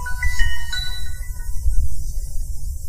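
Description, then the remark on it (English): A Samsung Android phone's startup chime as it boots up plays a few bright electronic tones that ring out and fade within about a second, over a steady low background rumble, with no one speaking. “See the, here's the boot animation. It's kind of taking some time here. There we go.”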